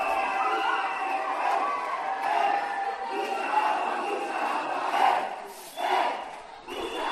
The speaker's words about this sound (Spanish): un vídeo que grabó un vecino desde su balcón, al que esto le molestaba, es de los míos, con la calle llena de gente, apelotonado, sin mascarilla. Y vosotros juzgáis si suena a mogollón o, como dice Eric, el alcalde del agua, unos pocos.